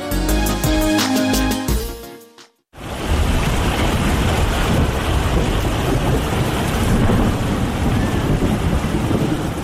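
A short burst of music cuts off, and after a brief pause a steady, loud downpour of heavy rain takes over, a dense, continuous roar with no talking.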